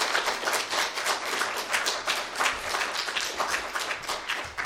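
A crowd applauds steadily, many hands clapping in a dense, continuous patter that holds at a fairly even loudness throughout, with no talking over it.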